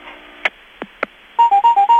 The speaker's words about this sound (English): I'm not here now, but you can leave a message when you hear the beep.